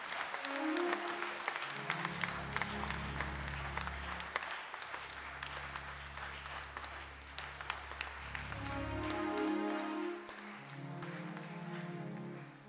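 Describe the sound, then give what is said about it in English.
A church audience claps in sustained, dense applause for several seconds to welcome a reverend, the rapid crackle of many hands steady throughout, with a low organ or keyboard chord droning underneath. “Beloved, with a big clap offering, let us welcome the Reverend Samson Adonu.”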